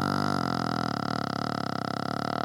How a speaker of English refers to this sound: Nope, it's a burp.